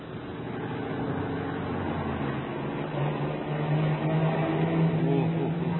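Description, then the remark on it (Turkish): A car engine drones steadily as the car speeds up to overtake another vehicle on a road, its pitch climbing partway through as it accelerates, a continuous motor roar with no speech. “Ya, bak baba ya şu Rıza'nın yaptığına bak. Bizi sollamaya çalışıyor.”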